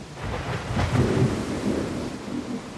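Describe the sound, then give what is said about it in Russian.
A short, crackling clap of thunder breaks out over a steady wash of heavy rain, its low rumble swelling briefly and then settling back beneath the downpour. “Трескучий и короткий удар грома раздался тотчас вслед за нею.”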